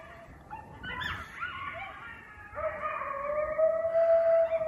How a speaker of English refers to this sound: That is the freakiest thing. That animal call Those are coyotes.